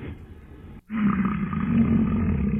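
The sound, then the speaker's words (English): A large bull strutting down the right shoulder of a road huffs heavily, heard from a truck beside it with the window rolled down: a low, breathy rumble that breaks off briefly and then returns louder and steadier for a couple of seconds, with no talking. “I could have had my truck gored, but for whatever reason, he let me drive next to him, and I rolled down the window and heard him huffing.”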